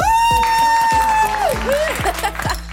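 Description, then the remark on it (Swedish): A short, loud burst of inserted applause with cheering: clapping noise mixed with a long held whistle-like tone and a few sliding whoops, lasting about three seconds with no talk over it. “Vänta, vi måste lägga in applåder.”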